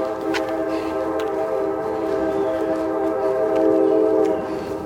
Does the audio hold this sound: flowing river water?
no